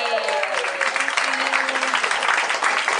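A crowd applauds steadily for about three seconds, a dense, even patter of many hands clapping at constant loudness, with faint tonal voice murmurs beneath.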